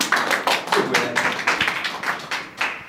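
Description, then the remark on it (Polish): A small group claps for about three seconds for Puchatek (Winnie the Pooh) on his birthday in a fairy-tale performance, with a steady run of sharp, bright claps that blend into a continuous patter at moderate volume. No voices are heard. “Brawo wszyscy do Puchatka!”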